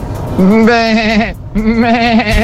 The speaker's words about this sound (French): Des chèvres, gros.